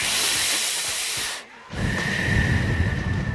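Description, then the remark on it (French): Deep, breathy inhaling on a big joint of Mazar, a very potent local cannabis variety, smoked during warm-up at a boxing club: a steady airy hiss, a brief pause, then a second longer drag with a faint thin whistle running through it. No talking. “on fume un bon gros pétard du Mazar, une variété locale de cannabis ultra puissante.”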